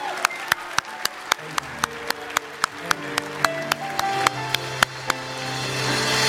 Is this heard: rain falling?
no